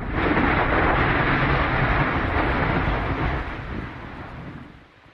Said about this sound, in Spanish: Para responder a estas preguntas, me pondré mi gabardina de detective y vamos a descubrir cómo suenan los volcanes. ¡Vamos a empezar fuerte! ¡Una explosión!